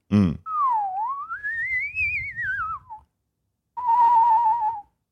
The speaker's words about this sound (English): I can whistle real good. I'm real good with my mouth and tongue.